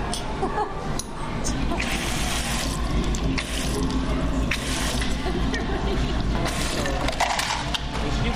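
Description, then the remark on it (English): A fountain soda pours steadily from a dispenser, a continuous hiss and splash of liquid filling a cup, with muffled voices and restaurant clatter underneath. “Oh, it's all boiling sodas.”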